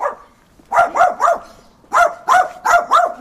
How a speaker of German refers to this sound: Fremde werden im Ort sofort verbellt. Eine Mischung aus Spitz und Pudel kläfft laut.